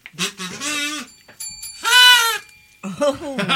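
A novelty hooter gives three wavering, bleat-like blasts, the middle one loudest, with a thin ringing tone lingering briefly in the gap between the first two.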